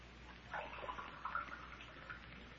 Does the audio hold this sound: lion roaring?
no